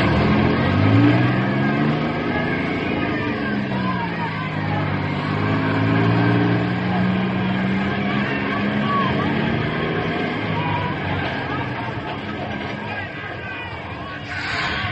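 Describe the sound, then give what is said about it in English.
A school bus engine revs and pulls away while boys wait to board the next bus, its low rumble rising and falling in pitch through the whole stretch, with a murmur of crowd voices underneath. “Stand here now until it pulls away and the other one pulls up to load.”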